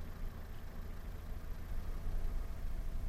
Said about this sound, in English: We didn't hear the frogs. They made no noise. We heard nothing but the sound of my engine. No wind, no rain, no radio, no breathing. We heard nothing.